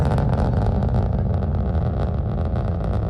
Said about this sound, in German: Oh, jetzt die Rakete. Du hast recht, man, die jubelt zuerst und dann ja, man die Rakete.